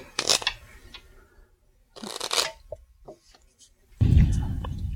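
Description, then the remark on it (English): A treasure deck of cards is shuffled during a card game in a few quick, crisp bursts of riffling and flicking, ending in a denser rustling shuffle. Faint voices can be heard in the background. “You may shuffle the treasure deck.”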